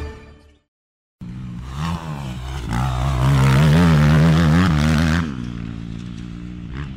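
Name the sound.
motorcycle engine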